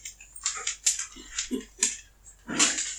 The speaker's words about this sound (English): We interrupt the podcast for a visit from the Great Pyrenees, Yeti and Ghost. Whoa. Two big dogs. Who would think they're little?